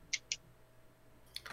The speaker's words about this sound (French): J'ai refermé ma boîte de dés, je suis capable de l'ouvrir.